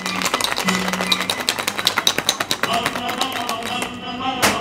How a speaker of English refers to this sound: Moe mixes a drink, rattling a cocktail shaker in a frenzy over her head, to her side, and behind her back before slamming it down